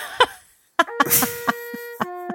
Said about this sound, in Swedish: För du hör näveluren nu, va? Ja. Hur den smyger sig fram genom skogsbrynet, ekar mellan husen. Underbart.